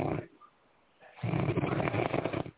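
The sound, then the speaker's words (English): A person snores loudly online during a prayer session: a short rasping breath, a quiet pause of about a second, then a long, rough, rattling snore lasting over a second. “I can't believe that somebody's actually snoring online right now.”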